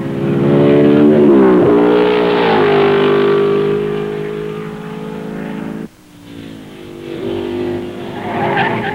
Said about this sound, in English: 1955, the team is further strengthened by Britain's number one driver, Stirling Moss, and the two fastest drivers drive the world's fastest car round the tree-lined circuit of Spa.